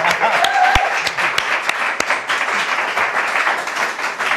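A crowd claps steadily for a few seconds, a dense, even wash of many hands with a few sharper individual claps standing out, no voices over it; the applause is for Emre Can, who sits in the audience.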